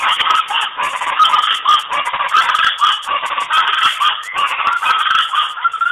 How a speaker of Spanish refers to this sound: Primero fue la naturaleza. Aquí el trino del ave llamada guacharaca.